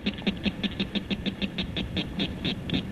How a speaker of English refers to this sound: Here, this little guy's call may not carry that far, but it's the northern cricket frog.